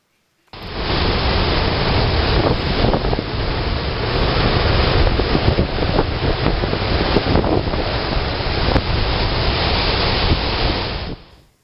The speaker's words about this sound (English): I actually found a little 10-second video that just shows what it's like when a storm whips up on the Sea of Galilee. Here, take a look at this.